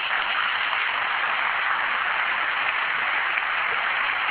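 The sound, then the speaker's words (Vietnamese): A crowd applauds steadily, many hands clapping in a dense, even wash of sound that stays loud and unbroken throughout, with no voices standing out. It is a big round of applause congratulating brothers being welcomed into the community. “Xin một tràng vỗ tay thật lớn nữa, chúng ta chúc mừng anh em về với chúng ta.”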